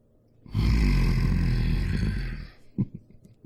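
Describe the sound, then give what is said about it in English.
A person lets out a long, loud, guttural growl imitating an animal, rough and throaty for about two seconds, then trails off into a few short, breathy grunts. “Growling like a fucking animal.”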